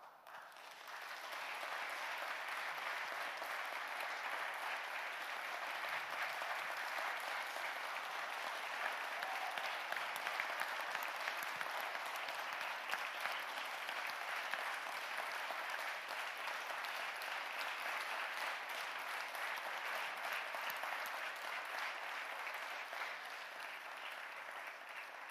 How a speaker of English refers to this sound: Awesome. Well, it's good to hear you cheering and not throwing tomatoes at us.